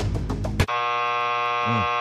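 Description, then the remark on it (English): A harsh, steady electronic buzz of a quiz buzzer sounds abruptly after a burst of busy noise and holds loud and unbroken for over a second, with a brief low hum near the end. “Buzz him.”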